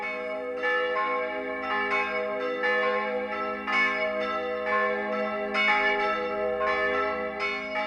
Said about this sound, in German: Über die Grenze kommen groß und dröhnend die Zürcher Glocken.